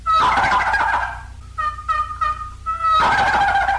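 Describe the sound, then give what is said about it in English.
Two loud, rattling turkey gobble calls used in hunting to stir toms into action in spring and fall, one at the start and one at the end, with a few short, clucking notes in the gap between them. No one speaks. “And here are some gobbles, which sometimes stir the toms into action both spring and fall.”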